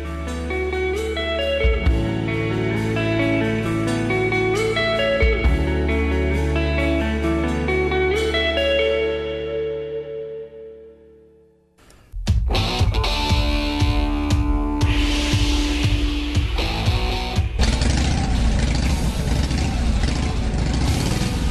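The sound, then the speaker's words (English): A stretch of music fades out, then a loud Harley-Davidson motorcycle engine takes over, rumbling with a steady low throb and occasional revs through to the end. “that, of course, is a Harley-Davidson motorcycle, the only bike in the world that is known as much for its sound as its look and feel.”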